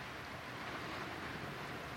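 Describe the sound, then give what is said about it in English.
Rain falling on the roof of a shack on a rainy, cold evening in Sonoma County makes a steady, even hiss with a soft low rumble underneath. The sound stays constant and fairly quiet throughout, with no voices. “I think you'll hear the rain on the roof of the podcasting shack.”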